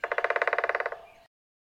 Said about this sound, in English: Frogs calling at Pike's Pond.